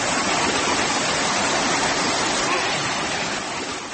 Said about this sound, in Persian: صدای ریزش آب و کار نیروگاه خودساخت چارکوه را می شنیدید.